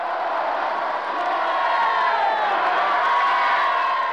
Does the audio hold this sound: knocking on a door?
no